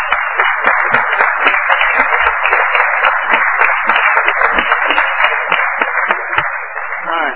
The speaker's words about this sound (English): She is a class act. So we just need to give her a big old round of applause.